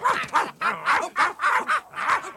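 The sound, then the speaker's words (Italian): A wolfdog barks in a quick, steady volley of about seven loud barks, each short and sharp with brief gaps between, and no voices alongside. “Vai via, cane lupo!”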